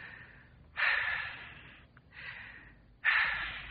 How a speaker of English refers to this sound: Take two deep breaths. Why, I'm breathing all right. Take them. Oh, all right.